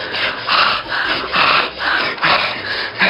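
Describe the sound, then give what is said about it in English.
A woman panting hard and out of breath during sex, with rapid, rhythmic breathy gasps repeating about twice a second, raspy and steady throughout with no talking. “God, she's really panting.”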